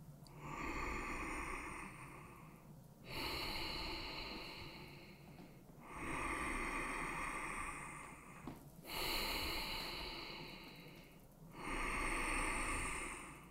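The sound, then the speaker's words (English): Slow, deep breaths drawn in and pushed out through the nose, five long airy cycles of about three seconds each, steady with no talking. “So let's inhale and exhale from the nose.”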